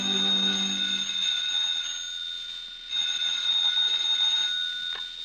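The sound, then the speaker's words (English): A telephone bell rings at a desk in the office of the Red Diamond Line, in two long, continuous bursts separated by a brief pause, with a bright, high metallic jangle and no voices. “We find her at her desk as the phone rings.”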